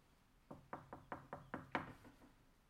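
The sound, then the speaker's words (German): Six soft knocks on a wooden door in a steady, slightly quickening rhythm, the last one a bit firmer, with no one speaking. “Ein feines Klopfen heute Morgen.”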